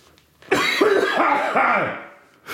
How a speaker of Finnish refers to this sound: Kylläpä se yskittää.